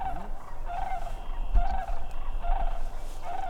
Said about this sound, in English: After hearing that first call, we move deeper into a more wooded area by the marsh's edge. A little while later, a second round of crane calls.